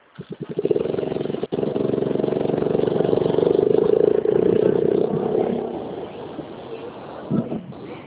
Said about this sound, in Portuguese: Olha, eu vou sair dessa rua aqui, porque essa rua tá muito barulho, cara. Pera aí. Tá. Daqui passa carro direto, pera aí.